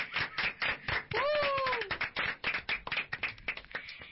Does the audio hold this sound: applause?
yes